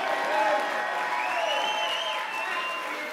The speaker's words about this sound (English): Go ahead. Take 60 seconds. Clap your hands, all ye people. Shout unto God.